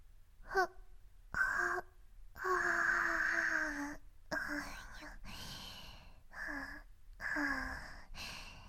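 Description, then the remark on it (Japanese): A drawn-out yawn with a long, sliding voiced exhale, surrounded by soft breathy murmurs and sighs from the same voice. “あくびが出ちゃいます。”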